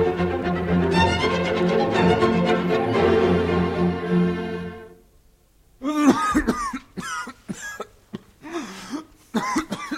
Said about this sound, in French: Voilà une cruelle toux. Quel diable de toux. Aussi tu t'en es donné du vin de l'hôtesse jusqu'au fond de la gorge.